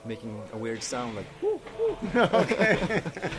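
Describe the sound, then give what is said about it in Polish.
A voice imitates an owl, giving a string of short, rounded hooting calls in quick succession, fairly loud, growing denser and more layered toward the end. “Innym razem wydaje dźwięk niczym sowa.”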